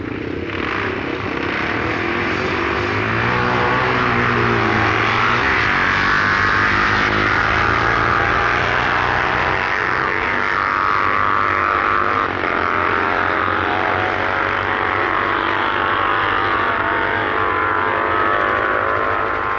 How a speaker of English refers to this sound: Predominant in this run is the 498cc Speedway Jack motor in Jack's Special, as he eliminates 17-year-old Stephen Woods during the first Blackbush meeting.